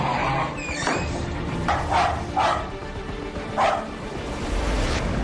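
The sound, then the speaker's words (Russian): A spaniel named Sonya, who came out of the Azovstal plant with a servicewoman, barks several times in short, irregular yelps over a steady, noisy background hum, the barks moderately loud with brief gaps between them. “Одна из женщин-военнослужащих и вовсе вышла из Азовстали с собакой.”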